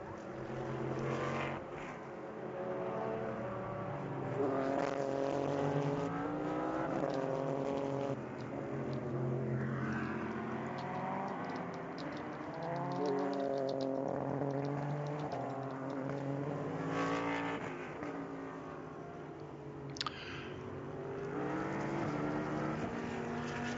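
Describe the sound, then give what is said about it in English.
Race car engines drone steadily throughout a second practice session on a track, their whining tones rising and falling in pitch as cars sweep past one after another. The roar is loud and continuous, with no talking. “It's still the number 10 car that is fastest.”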